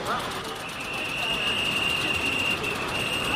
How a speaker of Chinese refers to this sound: 有意思，他在一个火车站，但是哪一个火车站呢？而且要去哪儿？里昂火车站。而且是去南方的。